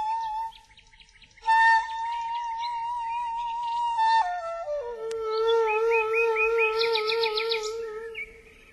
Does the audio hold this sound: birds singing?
yes